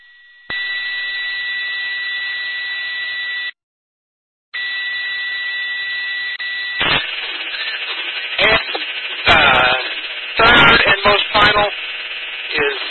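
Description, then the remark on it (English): A loud siren, the one found at w5nor.org/siren, blares at a steady, unchanging pitch, cuts out for about a second, then resumes; a donkey that does not like the siren is present, and later harsh irregular bursts of another voice-like sound break in over the continuing tone. “You'll hear a siren that donkey doesn't like to hear.”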